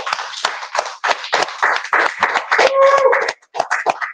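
An audience at a Book City event honouring a science fiction author applauds with dense, overlapping claps at a steady, lively pace. A brief high tonal whine rises through the clapping partway in, and the applause thins out toward the end.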